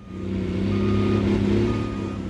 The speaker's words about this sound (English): I started research for this story at the Nevada State Museum. There were just a handful of cars and two bulldozers kicking up dust across the parking lot.